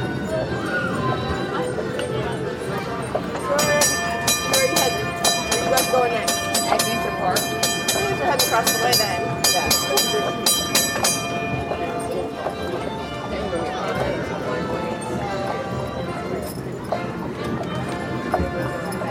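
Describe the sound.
A train or streetcar rumbles steadily along the rails, with a rhythmic clatter and a high metallic squeal rising through the middle stretch. Voices murmur faintly beneath the noise.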